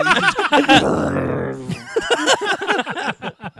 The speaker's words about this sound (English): It's only on this day. Like, I don't fart like this during the week.